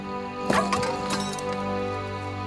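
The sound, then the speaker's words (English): A small metal ink tin is knocked aside by hand while writing with a pen by candlelight, a quick clattering knock and a couple of lighter rattling clinks, followed by a low steady background hum. “Growing frustrated, he knocks the ink tin aside.”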